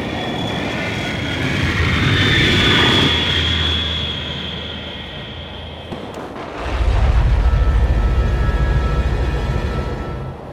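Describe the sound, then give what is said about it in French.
A low-flying airplane roars overhead, passing over people riding a train at full speed, with a high engine whine that swells, peaks and fades, followed by a second heavy rumble that stays loud to the end. No voices. “À part, c'est normal qu'ici, les avions volent aussi bas?”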